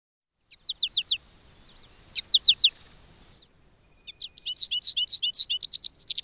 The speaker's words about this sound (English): Goldfinches have a more clipped, buzzy song that includes a higher-pitched twee and flight calls that sound like potato chip, potato chip.